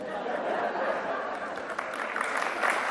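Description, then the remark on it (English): An audience at a discussion event applauds a remark about making America great, a dense, steady wash of many hands clapping mixed with crowd murmur, holding at an even, fairly loud level throughout. “That's the applause line.”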